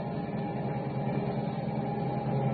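A station wagon carrying children across the 14th Street Viaduct: its engine hums in a steady, low rumble as the car drives along, the drone holding even and unbroken throughout with no voices.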